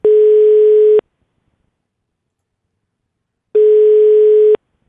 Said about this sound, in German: Und bei der Gewinnerin, da klingel ich jetzt mal durch.